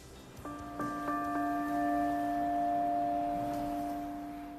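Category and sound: signal or alarm, large church bell ringing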